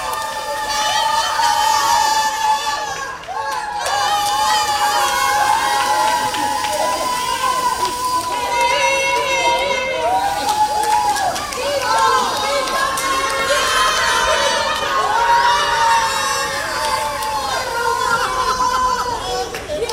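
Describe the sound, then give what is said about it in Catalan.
A crowd at the Les Arenes shopping centre in Barcelona cheers and shouts excitedly for the full stretch on learning it sold the second prize of the Christmas lottery, many voices overlapping in loud, continuous celebration with high-pitched whoops and yells, dense throughout. “Així s'ha viscut el moment de conèixer que rebien el segon premi del dia.”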